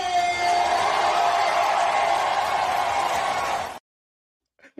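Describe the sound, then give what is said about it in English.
A large crowd at a training camp roars and cheers loudly in a sustained, dense wash of voices for nearly four seconds, then cuts off abruptly into silence, followed by a brief faint voice. “I got the last time the crowd went crazy at training camp.”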